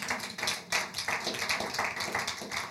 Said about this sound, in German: Und ihr dürft euch einfach an dieser Stelle einfach mal einen Applaus geben, weil ihr euren Zehnten gebt. Ja, ihr dürft jetzt wirklich einen Applaus geben.